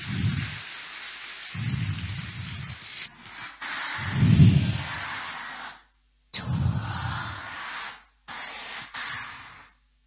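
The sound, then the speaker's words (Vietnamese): Students of the Hùng Vương high school applaud to welcome the abbot of Khai Nguyên pagoda, who has taken the dharma seat, in a sustained, dense wash of clapping, with deep rumbling thumps underneath and a few brief breaks before it picks up again and trails off. “Và thời giờ này thì thầy đã hiện diện trên pháp tòa, đề nghị toàn thể các em cho một tràng pháo tay để chào đón thầy.”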